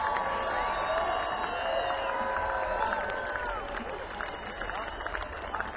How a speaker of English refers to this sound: You know what I think right now, folks? I think anybody that applauded like that deserves one more.